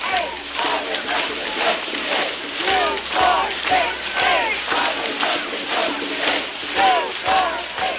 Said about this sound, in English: The assembled group chanted and rattled homemade noisemakers, plastic detergent bottles filled with pennies or pebbles, creating a formidable din as the crowd marched around Harvard Yard.